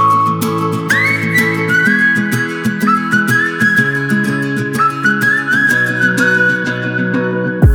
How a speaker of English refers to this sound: We're going to start off today with some pop music. This first song has a great whistling lead. Listen to this.